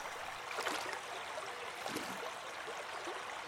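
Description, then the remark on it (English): A steady, continuous rush of water flowing in a great, winding river, with a soft hissing texture, fairly quiet and even throughout, with no voices. “I have spent my life in the shadow of this great and winding river.”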